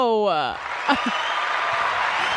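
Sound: crowd applause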